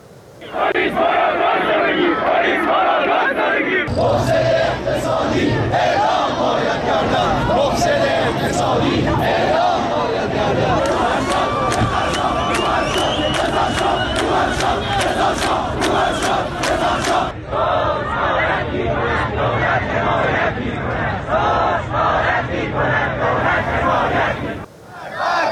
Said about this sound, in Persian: در تجمع معترضان مشهدی در روز پنجشنبه شعارهایی همچون مرگ بر دیکتاتور، مرگ بر روحانی و رضا شاه روحت‌شاد سر داده شد.